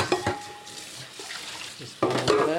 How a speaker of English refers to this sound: He's loading up the dishwasher.